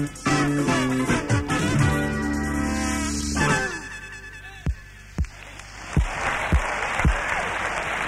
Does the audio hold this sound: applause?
yes